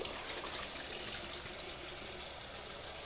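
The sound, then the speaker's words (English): A steady rush of running tap water pours without a break as a dish is slid under it and rinsed. No voices, just the even splash of the stream. “Sliding it under the water and watching as the temperature changes.”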